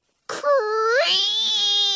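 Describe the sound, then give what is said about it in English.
A voice imitates a front door creaking open: one drawn-out, strained squeal that slides upward in pitch, then holds a high, steady whine until the end, fairly loud and alone. “Creak! I gasp at the sudden noise. Someone's coming in the front door.”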